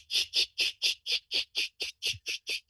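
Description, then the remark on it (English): Periodical cicadas (Magicicada septendecula) buzzing in a steady, shaker-like rhythm: about a dozen evenly spaced, raspy high-pitched pulses, roughly four per second, with no talking. “Third species, Magicicada septendecula, and they have like a regular, you know, shaker type rhythm.”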